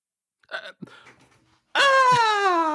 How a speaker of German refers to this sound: Nein, dort stand nur der Besitzer, bewaffnet mit Besen und Kehrschaufel, und er weinte bitterlich.